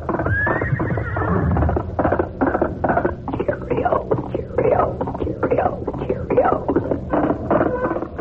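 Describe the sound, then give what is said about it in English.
A horse gallops, its hoofbeats pounding in a fast, steady rhythm throughout, with a brief whinny near the start; it is the galloping horse of the Lone Ranger. “Yes, when you hear that galloping horse, it's the Lone Ranger.”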